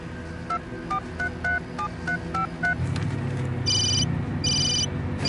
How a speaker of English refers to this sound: On the ship, Sonny answers his satellite phone.